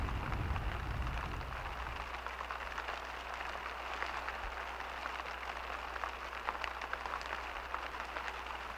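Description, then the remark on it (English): Heavy rain pours down steadily, a dense, continuous hiss of drops pattering on surfaces, with a low rumble underneath and no voices. “Look at that rain coming down.”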